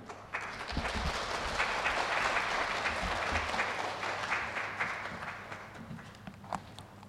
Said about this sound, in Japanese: 拍手を持ってお迎えいたしましょう。